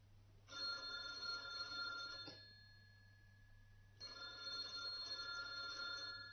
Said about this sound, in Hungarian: Telefon!